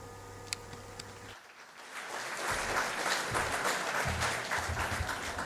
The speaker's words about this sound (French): Nous lui transmettrons vos applaudissements.